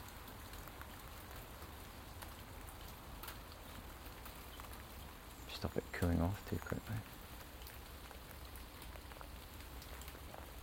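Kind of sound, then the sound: nature, light rain pattering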